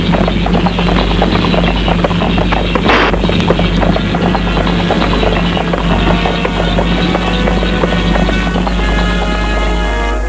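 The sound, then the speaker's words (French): Horse hooves clip-clop steadily for about ten seconds as a woman rides a horse, over a loud, constant low rumble and busy background noise, with no voices. “Dans l'après-midi, elle y va à cheval.”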